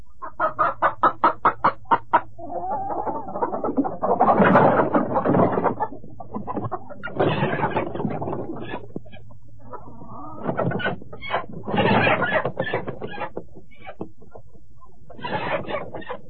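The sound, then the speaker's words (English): Chickens cluck in a quick, steady run of short notes, then break into louder, drawn-out calls as a rooster crows, clear, with more clucking scattered between. “They worked hard, planting crops and raising chickens and ducks to sell at the market in town.”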